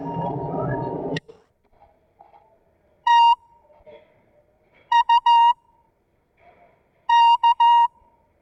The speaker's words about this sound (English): That was a Morse code quiz. I remember this tape from Whiting. I had gotten all of the Morse code down on it. I used to play it back to me at night so I could learn my Morse code.